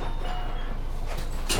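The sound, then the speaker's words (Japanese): A bus door closes amid steady engine rumble, with a brief hiss and then a sharper, louder burst of air near the end as it shuts, on a Japanese city-expressway express bus bound for Tenjin, stopped at Hashimoto. “ドアが閉まります。”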